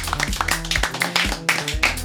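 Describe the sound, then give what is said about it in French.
A crowd applauds to thank everyone for a socio-cultural project with the team of the Girouardière, steady overlapping claps forming a dense, crackling wash over about two seconds, with a low sustained hum running underneath. “Je vais vous inviter à vous applaudir une dernière fois pour vous remercier pour ce fabuleux projet.”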